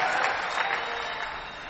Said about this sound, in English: Oh, I didn't hear you clapping properly for... Hallelujah.